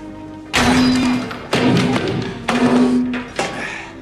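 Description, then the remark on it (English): A metal whites-only restroom sign at NASA is struck down by Kevin Costner's character in a film scene, with four loud, ringing bangs, each about a second apart, clanging with a low metallic hum after every blow. “Kevin Costner's character, he is outraged and he proceeds to knock down the whites only sign.”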